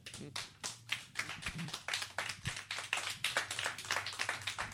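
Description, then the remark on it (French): A crowd at a free Monday stand-up comedy show applauds steadily for several seconds as comedian Alex Gosselin is introduced, dense overlapping hand claps forming a continuous, fairly loud patter that holds its energy without fading. “Et pour commencer la soirée, en fait, le meilleur show gratuit au monde du lundi, ben, ça va être l'excellent Alex Gosselin qui s'en vient vous parler dans quelques instants, juste le temps qu'on l'applaudisse.”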